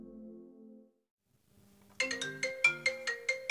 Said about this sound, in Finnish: Kännykkä soi keskellä yötä.